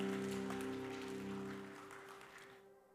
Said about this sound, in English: Give the Lord another hand clap of praise as you're being seated.